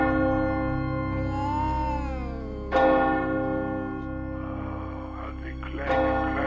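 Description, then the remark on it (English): Church bells, rung by someone pulling on the rope, ring loudly, with two sharp strikes a few seconds apart over a sustained, humming resonance, and a wavering tone rising and falling between them. “Who's ringing these goddamn bells?”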